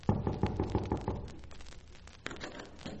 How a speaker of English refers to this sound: Why don't you knock when you come to a person's door? Well, I did knock.